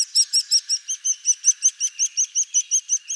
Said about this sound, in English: Begging calls from nestlings seem to work beyond a bird's own species. While one species caring for another is rare among birds, the fact that it does sometimes happen shows just how powerful the sound of a begging chick is to an adult bird.